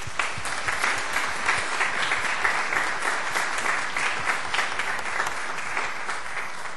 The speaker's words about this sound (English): And we are so glad to have all of you. Could we give these fine young people a round of applause?